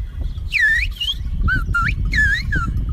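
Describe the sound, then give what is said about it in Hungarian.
Whistled speech in which a person whistles their own name: five or six short, loud whistle phrases with swooping, rising and falling pitch glides, separated by brief gaps, over a steady low rumbling background. “most tessék figyelni arra, hogy hogy fütyüli ezt el.”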